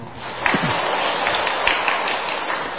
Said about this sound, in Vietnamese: Nên cho mấy em nhỏ và người lớn một tràng pháo tay.